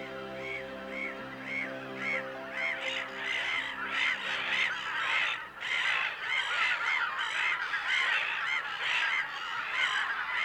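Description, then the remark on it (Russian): A flock of geese honks continuously on an uninhabited island in late July, where thousands of ducks, geese, swans and loons nest; many overlapping calls rise and fall in a loud, dense chorus, with other waterfowl mixed in and no voices. “Тут гнездятся тысячи уток, гусей, лебедей, гагар, всевозможных куликов.”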